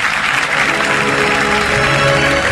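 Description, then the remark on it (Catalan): A crowd in Salou applauds the men's podium of a 5-kilometre race, steadily for a couple of seconds, a loud, dense wash of clapping that holds an even level without clear pauses, with a faint murmur of voices underneath. “Un aplaudiment pel podi masculí avui, 5 quilòmetres, aquí a Salou.”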